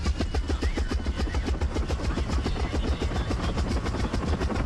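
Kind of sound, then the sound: vehicle, helicopter engine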